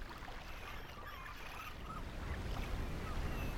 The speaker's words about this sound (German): Das Meer liegt in fantastischen Farben vor Ihnen da. Sie hören sein ruhiges, gleichmäßiges Rauschen und beobachten die Wellen, wie sie langsam auf den Strand zurollen. Auf und ab.